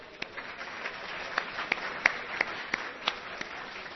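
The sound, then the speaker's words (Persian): An audience at a seminar applauds steadily for several seconds, a dense wash of clapping with a few sharper, evenly spaced claps standing out above the crowd. No one speaks. “خب خودتون رو تشویق کنید دوستان.”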